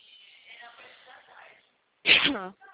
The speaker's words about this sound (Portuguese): Um pouquinho de tosse.